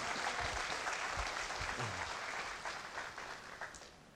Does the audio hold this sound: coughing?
no